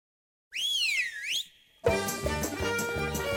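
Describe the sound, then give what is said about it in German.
A loud, bright whistle signalling the final segment of a small Jewish radio show glides up and down in pitch for about a second, then breaks off as busy instrumental music starts. “Der Pfiff sagt es klipp und klar, wir sind schon wieder im Finale von unserer kleinen, aber feinen jüdischen Radioshow.”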